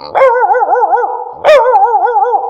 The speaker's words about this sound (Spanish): ¿Cómo ladran los perritos pequeños?